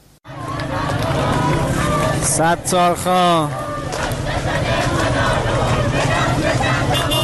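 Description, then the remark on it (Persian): A large crowd of protesters in Tehran, Iran, shouts and chants in support of Sistan and Baluchestan on the 40th day after Zahedan's Bloody Friday, a loud, continuous roar of massed voices, with a few rising and falling voiced cries standing out briefly midway. “صدای حامیان سیستان و بلوچستان را می شنوید.”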